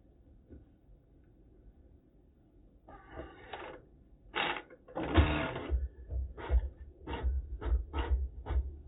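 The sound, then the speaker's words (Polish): A printer starts up after a few quiet seconds, printing the results of a vote on a resolution at a council session, then runs in rhythmic mechanical bursts, a series of short buzzing passes that grow louder and repeat steadily. No one speaks. “Poproszę o wydruk.”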